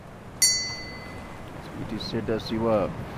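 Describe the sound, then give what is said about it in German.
A small bell attached to a piece of wood at a roadside temple of piled stones is struck once by a pilgrim praying to the god Shiva, giving a bright, clear ring that fades over about a second, followed by a voice talking softly over faint background noise. “Er betrachtet die bunten Gebetsfahnen, er bittet den Gott Shiva, seine Pilgerreise zu akzeptieren und läutet dann eine kleine Glocke, die jemand an einem Stück Holz angebracht hat.”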